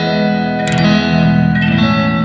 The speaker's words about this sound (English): it's kind of like, I like to think of it as just echo. And when I hit the strings without letting them vibrate, you hear a kind of echo. Just listen.